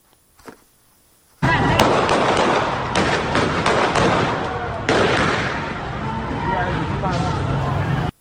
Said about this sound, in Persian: در برخی از تصاویر برخورد نیروهای حکومتی دیده می شود. از جمله در تصاویری از باغ ملک در خوزستان صدای شلیک تیر شنیده می شود.